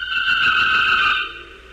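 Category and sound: vehicle, train arriving at station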